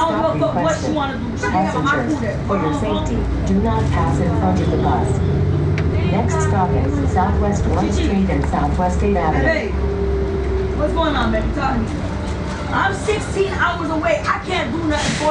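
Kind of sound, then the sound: ambience, city bus interior ambience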